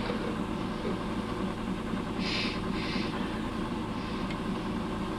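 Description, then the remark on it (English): An air conditioner runs with a steady, droning hum and a low rumble at constant loudness, with a couple of brief soft hissy swells partway through. “But now I got an air conditioner in here and I just sit down.”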